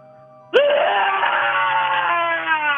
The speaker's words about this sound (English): This is your chance to win those Indy Scream Park passes. Let's hear your scream once and for all.